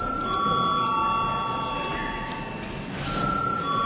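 parliament voting bell

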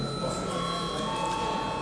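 parliament voting bell

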